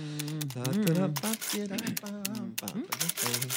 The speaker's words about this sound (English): We got the editing machine clicking away over there.